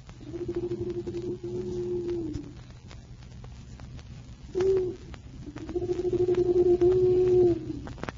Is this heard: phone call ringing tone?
no